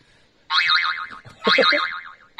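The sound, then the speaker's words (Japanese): Two bright, wobbling boing sounds, each warbling up and down in pitch for about a second, with a third starting at the end, introducing a 'spring corner' segment. No speech, just the springy cartoon effect repeating. “バネのコーナー”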